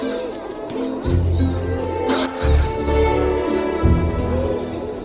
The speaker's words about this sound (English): Shearwaters come too. This is an excellent place for them to dig their nesting burrows, for no predators have managed to get here.